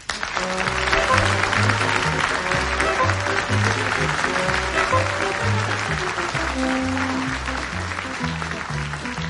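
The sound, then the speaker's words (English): A large audience claps steadily and loudly for several seconds, a dense continuous wash of applause, with a simple band tune playing underneath throughout. “Thank you for applauding.”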